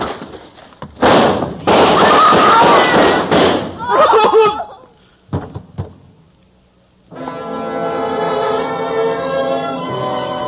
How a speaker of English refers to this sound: Ruth faced that door, fired a shot into the ceiling, and the guns of the police chopped her down.